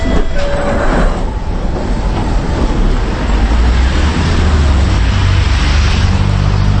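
A London Underground metro train runs steadily: a loud continuous rumble and rattle of wheels on track, with a brief high squeal near the start and no voices.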